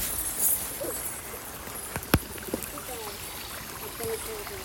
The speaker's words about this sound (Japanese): ちょっと傘を閉じたら、そして水たまりがすごい。雨の音と水の音と鳥の音がすごい素敵だから録音撮ってます。